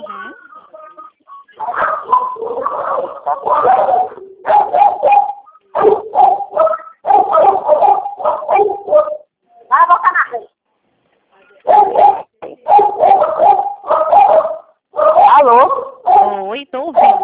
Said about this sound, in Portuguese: Barulho, mas eu estou ouvindo a senhora. O cachorro aqui é o cachorro que ficou latindo. Agora está difícil de ouvir.